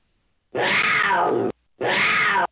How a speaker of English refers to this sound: we have the Crotch Shot Radio Show Cougar ready to give its roar